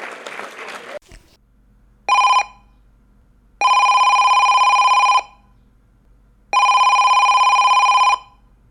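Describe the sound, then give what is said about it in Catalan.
A telephone rings for the second incoming call of a call-in guessing game: three steady electronic trills, one short then two long, with pauses between them, following a brief burst of noisy crowd-like sound at the start. “Segona trucada, com et dius?”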